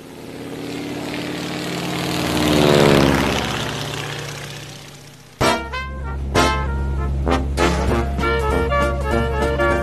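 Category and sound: vehicle, propeller airplane engine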